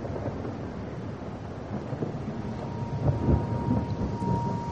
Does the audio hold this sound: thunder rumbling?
yes